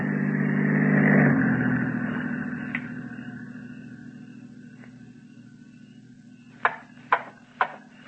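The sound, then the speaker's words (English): The engine of an approaching patrol car with a spotlight hums steadily, swelling to its loudest early on and then slowly fading as it moves off, followed near the end by four sharp, evenly spaced knocks. “The car approaching has a spotlight. It is a patrol car.”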